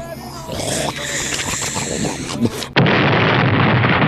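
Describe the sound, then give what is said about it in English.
A massive explosion erupts abruptly after a stretch of low, growling rumble, then a loud roar of noise fills the rest of the moment without fading. “A massive explosion.”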